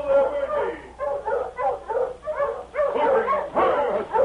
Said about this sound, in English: As Virgie was loading the supplies on his sled, he heard another team of Huskies approaching along the main street of town.